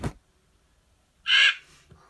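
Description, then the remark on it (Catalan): A single loud, harsh caw from a crow up in a tree rings out after a brief quiet stretch, sudden, its rasping call trailing off quickly into silence. “Un papagall era dalt d'un arbre amb un corb.”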